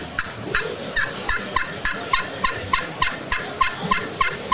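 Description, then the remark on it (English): A slate glass turkey call produces a steady run of about fifteen sharp, high-pitched yelps, evenly spaced and fairly loud, each with a raspy scratching edge. No one talks. “It's a slate call, glass call.”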